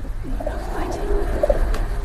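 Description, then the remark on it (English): A pigeon coos in low, throaty, rolling notes, a couple of soft warbling phrases over a steady background rumble. “Classic pigeon sound.”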